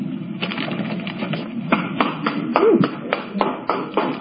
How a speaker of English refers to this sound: And that's my lone clapping.